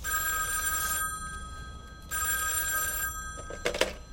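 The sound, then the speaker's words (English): An old telephone bell rings in two long bursts separated by a short pause, bright and steady, as the operator rings Rochester for Mr. Benny, followed by a couple of faint clicks at the end; no one speaks. “Operator, get me Rochester. Yes, Mr. Benny, I'm ringing for you.”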